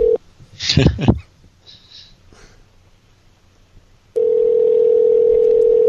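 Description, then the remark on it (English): A telephone call being placed to a cell phone: a short tone, a few breathy, rustling noises and a quiet pause, then a loud, steady dial tone that holds unbroken to the end. “If her cell phone was to ring right now, would that get her in trouble?”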